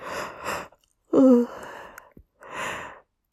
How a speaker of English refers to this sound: That's a big yawn. I'm really yawning big time here.